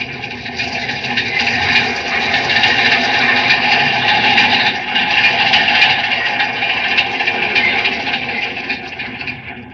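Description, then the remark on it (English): A metropolitan train rumbles and rattles steadily through a tunnel as it rounds a curve for about ten seconds, a dense continuous roar with a bright, grinding high edge of wheel noise and no voices. “There's one of our metropolitan trains coming into this tunnel.”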